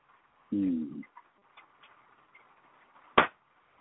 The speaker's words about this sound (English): Oh, an acorn hit the roof of the building. I heard that.